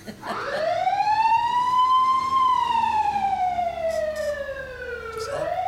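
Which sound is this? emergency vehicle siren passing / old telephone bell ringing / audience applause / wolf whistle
emergency vehicle siren passing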